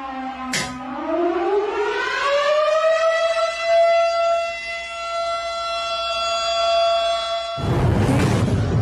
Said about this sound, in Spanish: Estamos tocando la alarma, mi amor.